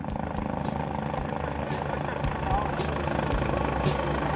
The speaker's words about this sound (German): Martina mit einem, wie sich später herausstellt, gebrochenen Fuß hoch über uns an einer Seilwinde mit dem Rega-Helikopter davonfliegt